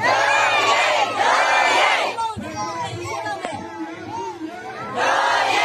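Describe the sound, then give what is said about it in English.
A large crowd in a Myanmar town roars and chants 'our cause, our struggle' in loud, rhythmic bursts, cheering on the resistance after the military coup: first one sustained surge, then a pause filled with scattered shouts and voices, before the massed chanting swells again. “Whole towns are cheering on the resistance, chanting, our cause, our struggle.”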